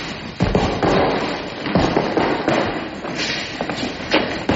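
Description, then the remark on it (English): In a scene from the film Rocky, Rocky's punches land on a punching bag in a steady, slightly uneven series of heavy, dull thuds, about one or two per second, over a constant wash of background noise with no talking. “So now Rocky is hitting the punching bag.”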